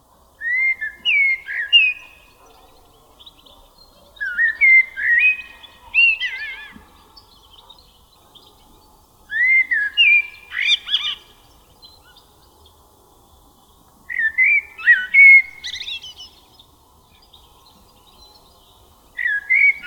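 A thrush-like songbird sings short, loud, ringing whistled phrases, not fluting or repetitive, each lasting a second or two and repeated after brief pauses, usually without rising at the end, recorded at Kondor Lake in Kiskunság National Park, Hungary, against a quiet background.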